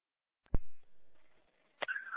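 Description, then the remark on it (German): A sharp click, then thin steady tones from a radio receiver, and a second burst rising into a brighter sustained alert tone, like an emergency dispatch alarm coming over the speaker. “wir haben eine Alarmierung, wenn jetzt dann.”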